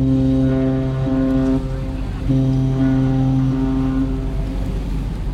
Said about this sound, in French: Qu'est-ce qu'il évoque pour vous ce son de bateau? Toute la mythologie de la mer et surtout de ceux qui n'ont pas la chance d'y aller, c'est-à-dire d'être au port et de l'entendre.